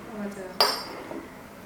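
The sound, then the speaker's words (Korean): A single sharp clink of a metal fork against a plate rings out briefly as freshly made aglio e olio pasta is eaten, amid quiet table sounds and a faint murmur of voices in the background. “그 가장 중요한 부분인 먹는 부분. 먹기를 담당하고 계시는. 맛있게 드시기 바랍니다.”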